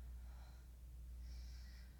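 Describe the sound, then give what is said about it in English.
Soft breathing of a woman, with slow, airy inhales and exhales over a steady low hum; quiet and intimate, with no talking. “Or to just hold you close, rest your head on my chest against my soft, warm breasts, and just listen to my heartbeat and my breathing.”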